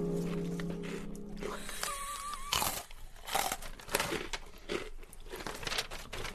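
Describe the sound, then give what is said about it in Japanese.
Crunchy chewing, with repeated bites and munches coming in irregular bursts of crackly, moist mouth sounds and no one speaking. Faint tonal noises drift in the background early on. “もぐもぐしてんだよね、まだね。”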